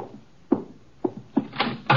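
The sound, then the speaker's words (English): Three firm knocks on a door as guests arrive, unevenly spaced, followed by a brief rustling shuffle of movement near the end. No one speaks. “Archie, the door. Our guests are arriving.”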